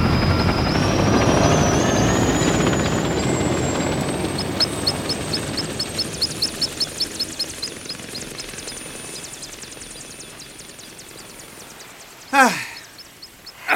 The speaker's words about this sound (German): Der Hubschrauber erhob sich und flog davon in Richtung Abendsonne.